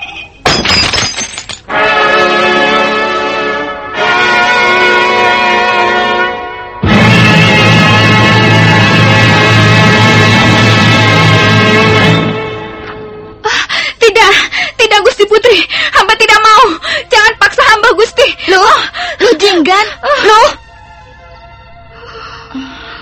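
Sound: screaming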